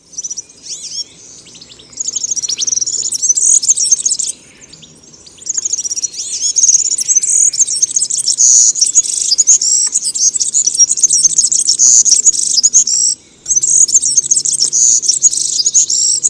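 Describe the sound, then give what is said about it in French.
A European serin sings a rapid, high-pitched, jingling and buzzy song in long continuous bursts with a few brief pauses, clear, with no voices. “Donc nous écoutions le serensini. Le serensini est un oiseau migrateur qui nous arrive fin mars et qui est très fréquent auprès des habitations, des vergers, des jardins.”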